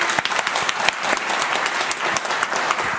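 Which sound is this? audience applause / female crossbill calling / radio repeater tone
audience applause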